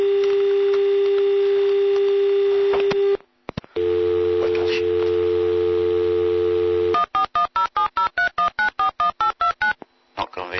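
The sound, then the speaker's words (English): A steady telephone dial tone, heard after the other party hangs up, drones for several seconds, drops out briefly, returns with a low hum beneath it, then gives way to a quick run of about a dozen keypad dialing beeps. “Why did you put the phone down on me then?”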